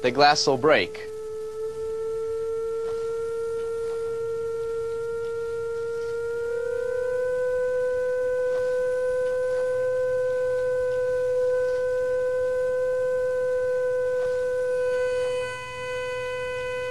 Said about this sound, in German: Jetzt wird es laut. Die Vibrationen werden stärker, das Glas wird sich immer mehr bewegen und das irgendwann nicht mehr aushalten. Drehe ich lauter, wird es zerbrechen.